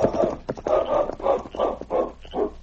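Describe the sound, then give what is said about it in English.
The dog King sniffs and whines at his master's side on a trail, making a series of five or six short, breathy bursts in a steady rhythm, with no talking. “For a few minutes, the great dog King sniffed and whined at his master's side”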